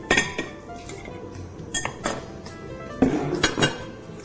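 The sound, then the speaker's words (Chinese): Metal pots and kitchenware clank and knock several times in irregular bursts over a low steady background hum with no talking, while pork ribs are blanched in hot boiled water. “好，首先呢你这个排骨呢我们可以用这个热开水把它烫过。”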